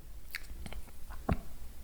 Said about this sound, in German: Okay, so, dann schlucken Sie jetzt bitte einmal. Okay. Noch einmal bitte schlucken.